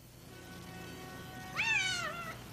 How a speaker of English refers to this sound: Nice kitty. Are you lost? Let me check the tag on your collar. It says your name is Cleo.